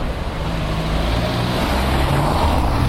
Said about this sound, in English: Car.